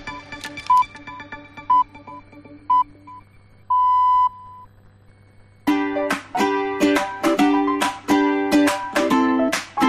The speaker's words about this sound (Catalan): Doncs directe ja busquem les senyals horàries que ens marquen 2:15.